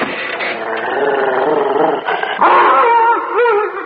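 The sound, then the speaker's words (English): A dog, Kim, howls and yips in protest at being brought inside through a door, a loud, continuous wailing cry with wavering, rising and falling pitch that swells louder partway through. No one speaks. “He's protesting rather vehemently, sir.”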